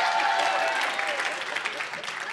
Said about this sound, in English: It is annoying, isn't it? You can clap, it's okay.